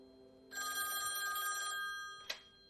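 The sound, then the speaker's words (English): A telephone bell rings in one sustained burst of bright, rapid metallic trilling, fairly loud, then cuts off with a short clack as the ringing stops. No one speaks. “We got a phone call saying they were deleting everything, and that was it.”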